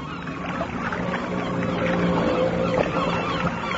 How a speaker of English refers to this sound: In the boat, coming ashore? Ah, oui. Yes. I see them.